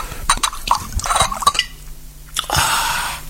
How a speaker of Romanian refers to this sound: Și beți vodka. Său? Prea bine. Mai umple-n paharul.